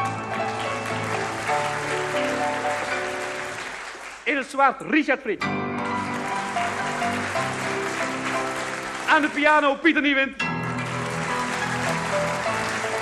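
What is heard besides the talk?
audience applause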